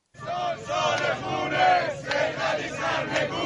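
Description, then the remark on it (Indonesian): A large crowd of protesters chants together in a street in Tehran, Iran, shouting "This is the year of bloodshed" in a loud, rhythmic unison that swells and dips in steady bursts. “Ini adalah tahun pertumpahan darah, teriak para pengunjuk rasa di Teheran.”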